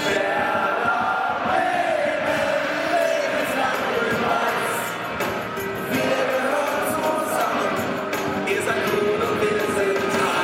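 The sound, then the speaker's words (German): A dense, tightly packed, standing crowd of Werder Bremen football ultras chants loudly in unison, a sustained roar of massed voices with clapping woven through it, continuous for the whole stretch. “Ultras sitzen nicht. Sie stehen. Sie sind bereit, alles für ihren Verein zu geben. Sie singen und klatschen, fluchen und schwenken Fahnen.”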